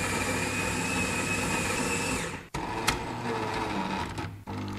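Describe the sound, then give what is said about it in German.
A coffee machine more than 10 years old brews in a kitchen with a steady mechanical whir and hum, briefly cutting out twice before resuming, with no voices present. “Die Kaffeemaschine braucht zum Glück kein Passwort.”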